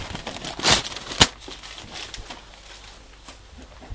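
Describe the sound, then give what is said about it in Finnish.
Paper crinkles and rustles, with a louder crumpling burst and a sharp snap near the start, then softer scattered crackles fading into low background noise, as a little paper is crumpled and put into a stove to make more smoke. No one speaks. “Laitetaan tuohon pikkusen paperia tuosta noin nappastaan.”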